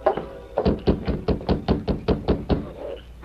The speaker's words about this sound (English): They approached the Dawson Ranch and saw lights in every window of the low building. They reined up, dismounted, and rapped on the door.